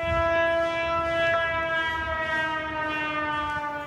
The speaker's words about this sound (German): Sirenen warnten die Bewohnerinnen und Bewohner Venedigs auch heute wieder vor dem nahenden Hochwasser.